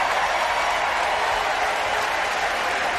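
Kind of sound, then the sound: crowd, crowd cheering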